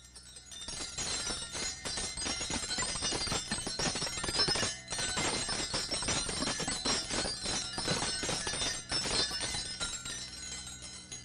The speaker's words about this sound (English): Those wind chimes, how they would play when someone opened the door.